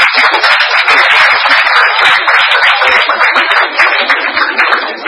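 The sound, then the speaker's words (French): A crowd breaks into steady, dense applause for a drawing of a dove, many hands clapping at once for several seconds, loud with no voices over it. “Vous pouvez applaudir quand même, ma belle colombe.”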